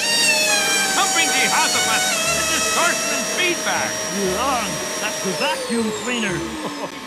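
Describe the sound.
An air compressor motor runs with a steady, loud whine throughout, its pitch sagging slightly near the end, while voices and short chirpy sounds come and go over it.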